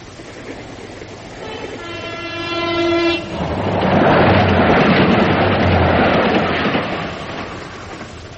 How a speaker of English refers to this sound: That's the last train they're letting through.